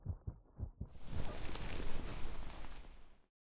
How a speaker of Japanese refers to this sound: 私の心臓の音。あなたの心臓の音も聞こえますよ。ドキドキドキドキって高鳴っていますね。私も負けないくらいドキドキしてますよ。エッチした後なのに余計に鼓動が速くなってます。